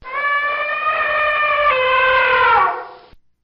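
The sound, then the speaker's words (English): A single loud elephant trumpet, a brassy, sustained blare held for about three seconds before sliding down and cutting off, with no other sounds around it. “Or the elephant?”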